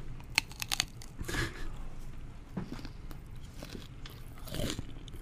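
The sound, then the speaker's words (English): A crisp bite into a crunchy kanafeh dessert with pistachio and tahini, followed by several seconds of loud crackling chewing with sharp bursts of crunch, no one speaking. “Listen to that crunch.”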